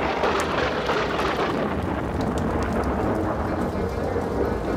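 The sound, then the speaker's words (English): Steady heavy rain pours down with a deep, continuous rumble of thunder rolling underneath, loud and enveloping from start to finish, with no voices. “Outside, a storm comes up. Later, they take a taxi in the rain to L'Australia Negra, the whorehouse where Alicia works.”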